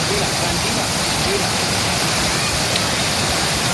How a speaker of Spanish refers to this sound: Por lo demás, la noche nos ha dejado tormentas con granizo en Aragón, en Cataluña, Navarra o en Vitoria. Lo peor se ha vivido en Zaragoza, donde la tromba de agua ha provocado inundaciones en el centro de la ciudad.